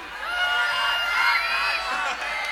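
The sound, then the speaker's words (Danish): A large crowd shouts together in one loud, sustained, energetic burst of many overlapping voices, with a brief dip near the end before the yelling continues. “I skal finde noget populært at råbe. Så lad os prøve med noget, der er meget oppe i tiden. Skoda 1302 favorit. Kan I råbe det?”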